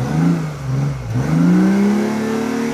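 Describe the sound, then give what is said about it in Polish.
A hybrid sports car's combustion engine starts and revs, its pitch climbing, briefly dropping, then rising again into a steady, loud roar with no talking over it. “No to teraz odpalmy go na silnik spalinowy.”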